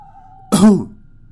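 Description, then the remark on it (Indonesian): A single short, light cough from the back seat, sharp at the start with a brief voiced tail, likely a person imitating it, set against a faint steady tone that stops as the cough begins. “Di tengah-tengah mencekamnya suasana, tiba-tiba terdengar suara batuk ringan dari kursi belakang.”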